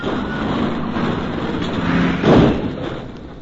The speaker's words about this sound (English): The snow made it rather rough going, and then suddenly their car skidded and turned over.